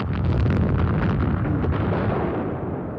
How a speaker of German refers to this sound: 21. Februar, 7.15 Uhr morgens, da konnte es dann losgehen. Da war die Sicht gut. Das erste Trommelfeuer 9 Stunden lang.